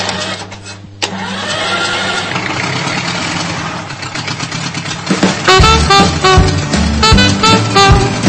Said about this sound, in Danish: Vi skal have fat i dagslys nu, og de skal ud og køre en tur på traktor. Tror jeg da nok, fordi det er min Ferguson.